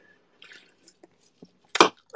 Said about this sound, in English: I have to like drink water.